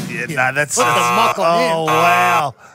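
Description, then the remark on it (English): A voice imitates a buzzer with a loud, nasal, wavering honk, drawn out in several joined bursts over about two seconds, alone. “We should get two buzzers for that.”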